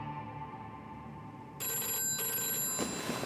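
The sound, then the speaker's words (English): A telephone bell rings loudly and continuously late on a December night in the governor's mansion, waking Governor Laxalt for a call from Howard Hughes; a bright metallic jangle that grows stronger partway through, with no voices present. “Laxalt wakes from a deep sleep and fumbles for the phone.”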